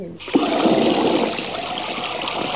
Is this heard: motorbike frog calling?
no